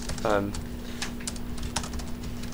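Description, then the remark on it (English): Rapid, irregular clicking of keys as someone types a procedure into a computer on its keyboard, with a steady electrical hum underneath and a brief tonal blip near the start. “So what happens here is that I've defined a procedure by just typing it in.”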